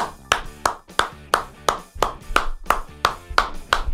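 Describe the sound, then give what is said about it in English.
Polite, measured Wimbledon-style tennis clapping, about a dozen crisp claps at a steady, unhurried pace, moderately loud. “A Wimbledon tennis clap.”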